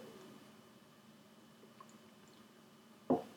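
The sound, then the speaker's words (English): A quiet, near-silent stretch ends with a single wet gulp as someone takes a quick swig of water. There is no talking. “All right, just grabbing a swig of water here.”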